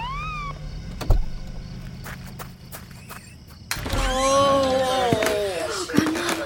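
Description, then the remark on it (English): The siren of a flashing red ambulance wails in gliding tones, heard briefly at first and then returning louder after a few seconds, sweeping downward over clattering background noise. “got hurt, and two men and a lady came in a flashing red ambulance to take grandma away.”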